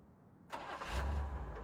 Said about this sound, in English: Then a car is starting. The motor fades away into the distance.